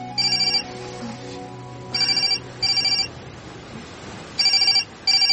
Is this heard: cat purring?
no